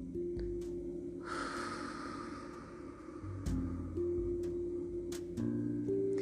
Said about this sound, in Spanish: Voy a cerrar los ojos. Y voy a vaciar totalmente mis pulmones.